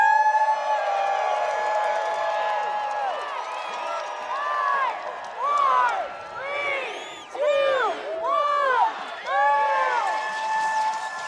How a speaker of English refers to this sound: Skis anxiously slide back and forth. Now give a great cheer for this great Grand Traverse race!